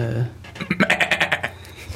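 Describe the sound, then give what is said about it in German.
A voice imitates a quiz-show contestant's buzzer with a rapid, pulsing, nasal bleat of about eight quick bursts, loud, lasting roughly a second before trailing off. “Das war … sein Buzzer. Wir müssen jetzt halt heute per Stimme nachmachen.”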